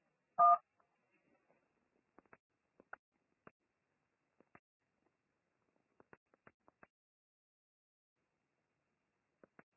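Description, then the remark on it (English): One loud telephone keypad beep at the start of a phone call while being placed in a call queue, followed by a scattered run of faint, short keypad tones and clicks at irregular intervals. No one speaks. “Just press that number once you hear the beep sound, okay?”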